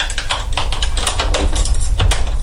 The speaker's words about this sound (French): Hein ? Ils ont démonté la poignée.